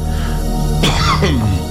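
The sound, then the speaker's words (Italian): Two harsh coughs burst out in quick succession, throaty and fairly loud, with a brief rasping tail after the second, over a steady low background hum. “E giù tosse, sai?”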